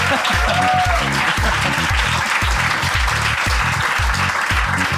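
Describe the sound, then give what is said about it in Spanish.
Sustained, loud applause from an audience welcoming an arriving guest, a steady wash of clapping with no break, over a rhythmic, thumping musical beat underneath. “Se ha hecho la norma de que se aplaudía hasta que llegaba.”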